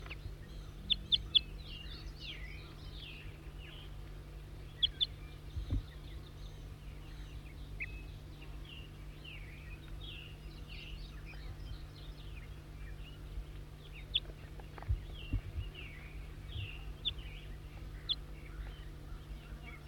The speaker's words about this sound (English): Wild bird.